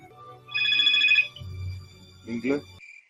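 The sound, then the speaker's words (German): A telephone rings with a short, bright electronic tone lasting under a second, clear over a low background hum, followed by a brief muffled voice. “Und jetzt wird erstmal telefoniert.”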